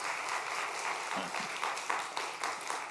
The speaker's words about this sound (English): Can I get a witness that God has done many things in your life? Amen? Amen. Clap it up. Right?